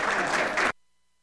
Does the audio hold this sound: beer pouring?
no